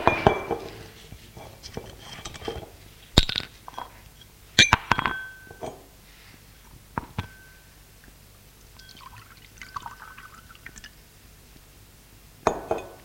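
Glass clinks sharply a few times amid soft handling as a man serves a woman a glass of water along with two pills, followed by a faint pouring trickle of water into a glass, then another bright clink near the end.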